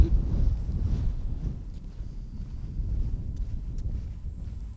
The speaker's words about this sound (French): on va se mettre à l'abri du vent, sinon ça va être compliqué.